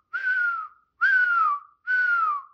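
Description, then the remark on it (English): Three whistled notes imitating a pelican call, each about half a second long, steady and slightly falling in pitch, evenly spaced and fairly loud, with no talking. “That was a pelican.”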